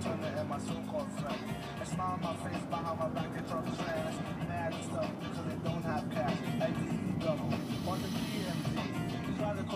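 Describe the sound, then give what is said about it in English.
A steady rumble of street traffic fills the background, cars moving by continuously, while people's voices talk over the noise throughout. “Oh, the traffic is shitty here, guys.”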